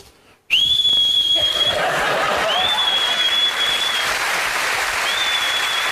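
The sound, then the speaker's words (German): A person whistles long, steady high notes in a few sustained phrases while loud applause from an audience breaks out and continues throughout. “Hallo, der Pfiff ist das Beste an der Nummer”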